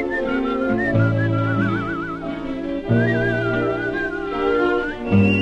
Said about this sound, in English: was able to, you know, work as if he were a horn player when he whistled, and he does it very well, very, very musical.